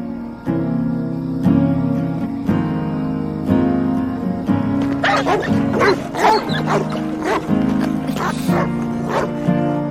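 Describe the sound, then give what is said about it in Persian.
A stray dog barks repeatedly and loudly, the sharp barks clustering in a rapid volley during the second half over a steady, humming background. “نزدیکشون نشو، نباید به سگی که واق واق میکنه نزدیک بشی.”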